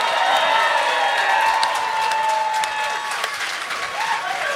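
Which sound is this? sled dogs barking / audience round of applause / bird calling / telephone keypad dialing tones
audience round of applause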